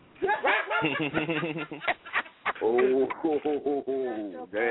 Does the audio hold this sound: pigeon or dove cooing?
yes